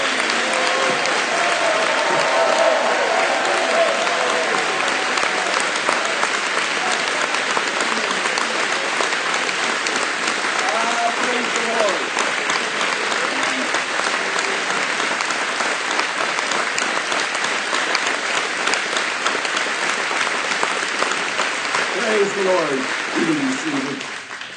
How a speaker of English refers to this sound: Now that deserves a stand up. You got to give vent. You're welcoming the Holy Spirit. So see, clapping hands ain't so bad, is it? Oh, let me hear you.